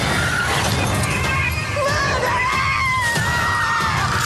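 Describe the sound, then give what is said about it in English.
A jump scare at a seance: a sudden burst of loud, wavering screams fills the air, with shrill overlapping voices rising and falling over a dense, noisy crash-like din, startling and continuous throughout. “Screaming begins. We get it. Which is, yeah, Michelle. That's called a jump scare.”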